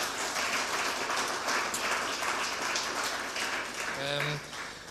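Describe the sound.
Steady, dense applause from an audience, a loud continuous crackle of many hands clapping for about four seconds. A short voiced sound cuts in near the end as the clapping thins.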